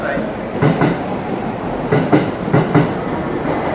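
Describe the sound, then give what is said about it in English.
A subway train rumbles in, arriving at a station, its wheels clacking over rail joints in uneven bursts above a steady, loud roar, with faint crowd murmur mixed in. “Okay, here's our train.”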